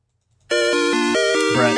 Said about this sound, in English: Third Zelda item fanfare.